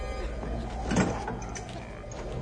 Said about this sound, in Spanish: Un auto afuera.